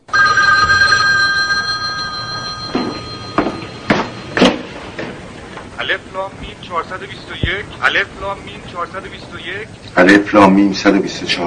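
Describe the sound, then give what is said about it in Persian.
A telephone in a house at night rings loudly and steadily for the first couple of seconds, its bright bell tone hanging in the air, then voices take over and talk through the rest. “شب رأس ساعت مقرر … توی خونه نشسته که تلفن زنگ میزنه.”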